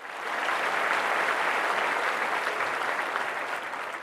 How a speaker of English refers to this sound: Great answer, Adi. And I think it deserves a round of applause.